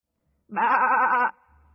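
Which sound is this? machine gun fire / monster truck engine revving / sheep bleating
sheep bleating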